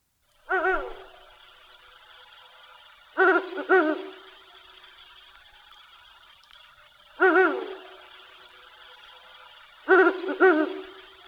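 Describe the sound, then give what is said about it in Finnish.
A Ural owl hoots in four spaced bouts, each a deep, resonant call of one or two notes, carrying clearly over a quiet background with no voices. “Kuunnellaan tähän väriin vähän viirupöllöä.”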